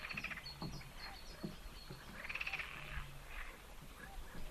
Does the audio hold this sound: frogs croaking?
yes